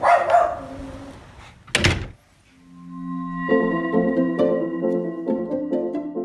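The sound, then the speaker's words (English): A dog barks in a short, noisy burst at the start, followed by a sharp thump, then steady tonal music with rhythmic notes takes over. “Honey, could you please take the dog out for a walk?”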